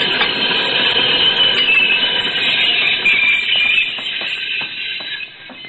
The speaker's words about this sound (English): That express stopped not more than 10 feet away. That was too close for comfort, Senor Beale.